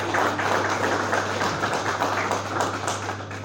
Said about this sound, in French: Cette soirée, la réussite de cette soirée, c'est en grande partie grâce à elle. Merci d'applaudir encore.